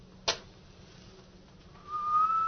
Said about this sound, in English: Striking a match, Holmes leapt from the bed and was lashing furiously with his cane at the bell pull. As the match flared, I heard a low, clear second whistle.